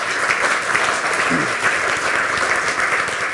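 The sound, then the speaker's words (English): An audience at a presentation gives a round of applause for a speaker, clapping steadily for a few seconds, a dense, even wash of many hands clapping at once, fairly loud, with no distinct voices over it. “You can start at whatever point you feel is good on this slide, and I'm going to grant you an extra 30 seconds for the interruption, and maybe a round of applause for letting me.”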